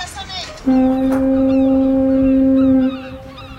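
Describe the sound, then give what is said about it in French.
A special end-of-class school bell at a Saint-Nazaire school named after Anita Conti, made of seagull cries and foghorns, sounding as one long, steady, low foghorn blast, held for about two seconds and loud against a faint background, with no clear gull cries standing out. “En ton honneur, la fin des cours rime avec des cris de mouettes et des cornes de bruit.”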